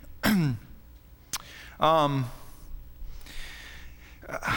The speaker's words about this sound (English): I'll clear my throat and go on here.